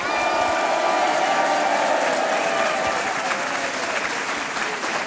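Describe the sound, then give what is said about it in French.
A large audience applauds in a village festival hall on the island of Groix, a dense, steady wash of clapping that stays loud and even throughout, with faint crowd murmur mixed in. “Île naturelle, sauvage, accueillante, comme nous le prouve le public nombreux venu dans cette salle des fêtes, applaudir.”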